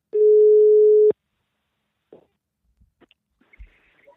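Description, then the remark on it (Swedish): A single steady ringing tone of an outgoing telephone call sounds loudly for about a second, then cuts off, followed by near silence with a few faint clicks and soft handling noises. “Så att hörni, jag tänker att jag ringer upp henne här så får vi se vad hon har för sig.”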